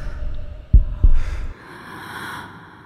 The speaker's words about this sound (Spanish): Porque uno empieza a escuchar su propia respiración y el propio latido de su corazón. Entonces, uno es consciente de sí y es una cosa que te sobrecoge.